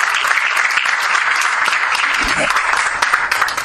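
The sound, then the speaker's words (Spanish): An audience claps for everyone present and for the children, a steady, dense, continuous wash of many hands with crisp, bright clicks, holding at a strong level throughout. “Y como buena noticia les queremos comentar que hemos logrado la prórroga por un año más de la vigencia de la Comisión, por eso quiero, bueno, pedirle un aplauso para todos ustedes y para todos los chicos, ¿no?”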